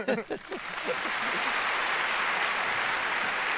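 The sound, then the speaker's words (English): A crowd bursts into applause for President Bush, a steady dense roar of clapping that stays loud throughout, with a few faint voices mixed in at the very start. “Nobody gets applause like the president.”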